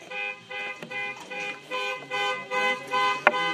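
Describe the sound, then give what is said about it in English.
A car horn honks over and over in steady, rapid bursts, loud, from a car right outside a window. “Minor delay because of a car honking right outside the window.”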